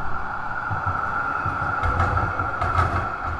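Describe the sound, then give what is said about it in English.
A tram rumbles past with a steady low mechanical drone and a humming whine, a few brief rattling clatters rising toward the end, and no talking. “here comes we a tram.”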